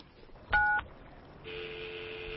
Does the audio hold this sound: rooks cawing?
no